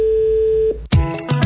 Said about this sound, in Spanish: Dale, dale, que ya está dando timbre.